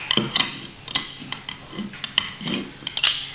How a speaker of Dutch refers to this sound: Blokjes aan het snijden.